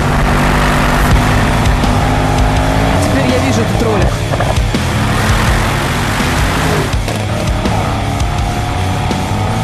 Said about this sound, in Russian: Это когда активируешь специальный спортивный выхлоп системы выхлопной. Ну, прямоток мы называем по-простому это прямоток. То получается как раз такая штуковина. Он так делает...